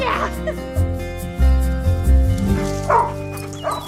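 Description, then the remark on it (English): A dog named Freeway barks and yips several times in quick, uneven bursts, fairly loud, with a steady low hum underneath and a faint voice at moments. “We're not getting a dog, right?”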